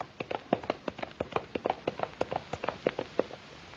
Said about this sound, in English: Hold it. Hold. Come back here. Look, he's dashing right into the flames. The horse, he's going right into the burning castle.